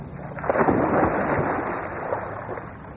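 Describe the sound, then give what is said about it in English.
A single heavy splash as a man dives with a jackknife from the high board into an outdoor swimming pool at a health spa, followed by a few seconds of churning, sloshing water that slowly settles. Fairly loud, with no voices. “He cut into the water like a missile and came up at mid-pool, shaking the water from his head.”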